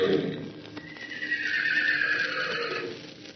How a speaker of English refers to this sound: And he lifted up his voice and called to them the long, bugling neigh of his kindred.